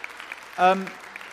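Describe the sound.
Scattered audience applause thanking a man from Syria, a soft crackling patter of clapping, briefly overlaid by a single short voiced shout or cheer near the middle before the clapping carries on.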